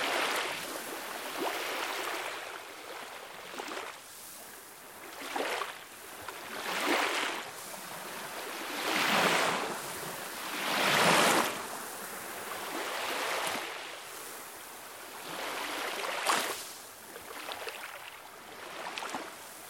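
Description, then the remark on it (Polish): Ocean waves roll in and break on the shore one after another, each surge swelling into a broad hiss of foam before washing back, steady, with no voices. “Gdy spacerujemy nad morzem, słyszymy szum fal.”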